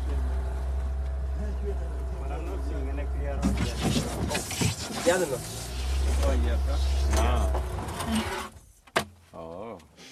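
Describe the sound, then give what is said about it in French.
A boat motor drones steadily at a low pitch under people talking on a river among submerged dead trees, then is switched off near the end after the boat hits a tree trunk, so the rest of the way is paddled, leaving a brief quiet stretch with a few sounds. “On a arrêté le moteur, on va finir avec les pagayes.”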